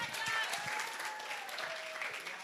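An audience claps steadily for a couple of seconds, a dense, even wash of many hands with no pause, and a faint voice or cheer rises faintly above it.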